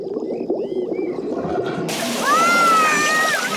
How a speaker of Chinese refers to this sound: 妈妈用水管把泳池灌满了水。